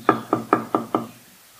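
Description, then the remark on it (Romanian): Five firm, evenly spaced knocks on a door, clear, each with a short hollow thud before fading into quiet. “Nu cumva ne-a spune, iată eu stau la ușă și bat?”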